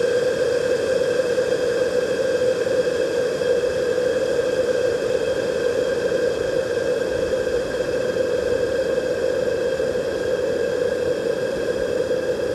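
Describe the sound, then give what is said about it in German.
A condenser microphone being cooked in hot steam as an experiment picks up a steady, loud hissing roar with a constant droning hum running through it, unchanging from start to finish, with no voices. “Kochen eines Mikrofons im heißen Wasserdampf.”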